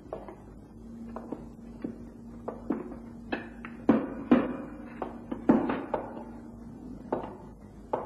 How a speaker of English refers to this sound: We left the door to the auction rooms ajar and concealed ourselves in the alcove leading to the passage as 4 o'clock approached. Shh. There. You see, the door is opening slowly. Someone is entering the room.